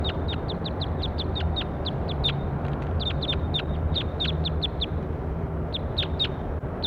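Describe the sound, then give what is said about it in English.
A bird, labelled bird A2 in a recording session, calls repeatedly with quick, high-pitched chirps in rapid runs and short pauses, steady and fairly loud over a constant low rumble of background noise. “That was bird A2.”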